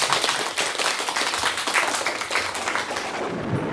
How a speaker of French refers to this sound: Le plus grand, le plus héroïque. Un tonnerre d'applaudissements pour Zeus.